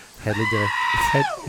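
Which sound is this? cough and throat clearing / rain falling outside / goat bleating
goat bleating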